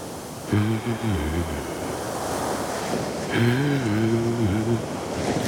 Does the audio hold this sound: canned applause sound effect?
no